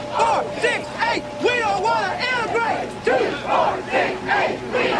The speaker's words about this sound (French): Cette fille ici est la première élève noire apparemment en âge de se montrer devant le lycée Central High, alors que la Cour fédérale a ordonné la désintégration. Elle a été suivie par une foule en colère, chacun d'entre eux lui criant dessus.